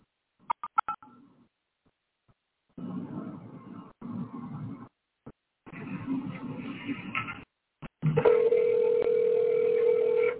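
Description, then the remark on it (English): A rapid burst of four or five short electronic phone beeps during a silent transfer of a call to the next available VCL crisis line responder, followed by stretches of rough, hissy line noise, then a loud steady tone that holds to the end. No one speaks. “During the silent transfer, you may hear beeps.”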